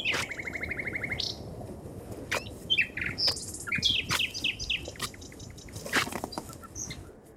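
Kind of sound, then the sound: bird, nightingale singing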